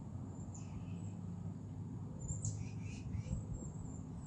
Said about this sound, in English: So I do hear birds. There is an owl I just heard or something of that sort.